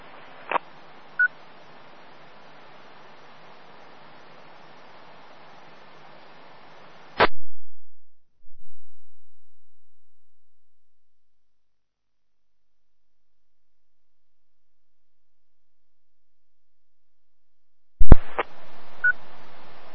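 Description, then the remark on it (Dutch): Short electronic beep tones, like those keyed to open a radio repeater, cut through steady radio hiss that stops abruptly, falls silent for several seconds, then returns with another brief beep. “Schijnbaar kijk ik niet over de repeater werken, kan er niet open piepen hoor.”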